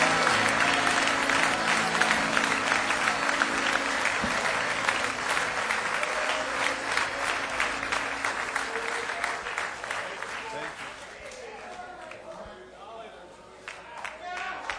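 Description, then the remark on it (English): A large audience bursts into sustained, loud applause as a hand clap of praise, a dense wash of hand claps that holds steady before gradually thinning and fading toward the end, with some voices mixed in. “Oh, give him a great hand clap of praise if you love him.”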